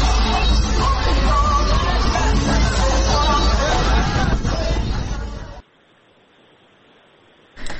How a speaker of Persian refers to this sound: شادی مردم زنجان بعد از باخت تیم.